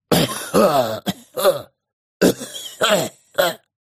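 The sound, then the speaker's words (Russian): A prisoner coughs repeatedly, a string of rough, throaty hacks in two clusters separated by a short pause, fairly loud and evenly paced, monotonous like a creaking mechanism. “Но узник только кашлял мне вслед.”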